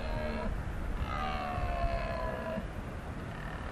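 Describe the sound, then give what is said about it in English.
Red deer stags roar during the autumn rut in the highland glens, two stags confronting each other: a short harmonic bellow, then a longer drawn-out one, carrying across open ground over a steady background of wind or outdoor noise. “It's the red deer stags starting their rut.”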